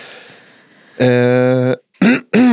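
A loud throat-clearing: a drawn-out voiced rasp followed by two short, gruff bursts, heard alone over a faint background hiss.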